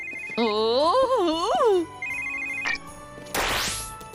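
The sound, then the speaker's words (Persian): A telephone rings as Santa Claus calls, with a warbling, melodic electronic tone that rises and falls, followed by steady high beeps and a burst of noisy, rising sweep at the end. “اینجا رو نگاه، بابا نوئل داره زنگ میزنه.”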